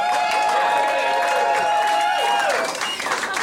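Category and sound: crowd, crowd cheering reaction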